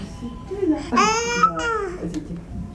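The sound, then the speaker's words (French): A baby babbles, making a couple of drawn-out, sing-song vocal sounds that rise and fall in pitch, with no adult talking over them. “Ah, mais ça y est, tu me parles”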